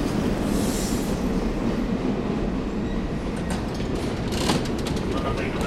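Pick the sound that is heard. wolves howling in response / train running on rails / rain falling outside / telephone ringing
train running on rails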